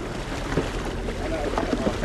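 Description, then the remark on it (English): Small shards of sea ice knock against the bottom of a fisherman's tiny boat in the Arctic in a few scattered, sharp taps over a steady rumble of water and wind. “Small shards of ice hammer on the bottom of Mattesson's boat.”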